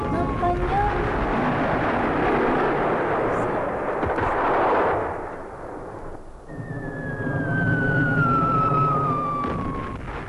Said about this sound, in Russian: Взрывы лишь на мгновение заставляют ее приостановиться.